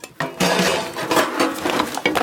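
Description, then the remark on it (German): A busy jumble of foley noises made by a foley artist searching for the right sound: sharp clacks and knocks mixed with hissing bursts and wet gurgles, loud and continuous with short pauses, no voices. “So klingt es, wenn der Geräuschemacher sucht. Klack-, Zisch- und Glucksgeräusche.”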